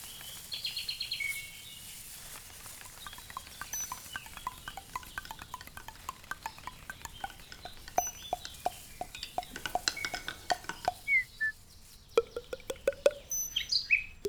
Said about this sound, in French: Et pinson, ici.